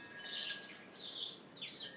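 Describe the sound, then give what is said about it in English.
High, bright chirps of birds on Robin's patio come in three short bursts over a faint outdoor hiss, fairly quiet, with no voices. “everybody on Robin's patio, but man, I wish I could hear the birds like this on mine.”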